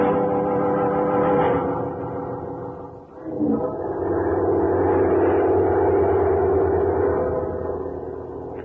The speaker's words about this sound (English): Now, here we are on a plane heading for Bangor, Maine.